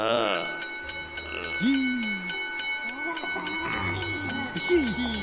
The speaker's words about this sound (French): Oh, mais ding-ding! Mais... Quoi? Il y a une petite sonnette posée sur le bureau. Et... Je vais aller sonner!